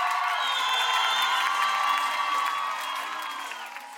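A large Eastern Ukrainian crowd cheers and screams for the local team continuously, a dense roar of many voices with high-pitched shrieks layered on top, staying loud throughout before easing slightly near the end.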